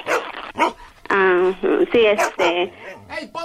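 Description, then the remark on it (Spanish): A dog barks repeatedly and will not stop, loud sharp barks and yelps in an uneven burst, with some high whiny tones mixed in. “¡No deja de ladrar, Ponce!”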